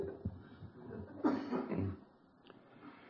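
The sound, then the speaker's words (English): A person coughs a few times in quick, raspy bursts, followed by a wheezy, strained breath, moderately loud, then fading to quiet background noise. “Cough, cough, wheeze, wheeze.”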